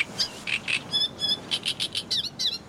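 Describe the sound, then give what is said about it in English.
Small land birds chirp and tweet in quick, repeated bursts, a steady run of high bright calls and trills, with no voices and a soft background hiss underneath. “They were land birds that don't frequent the high seas, apparently catching their breath on the boat, and then resuming their epic journeys.”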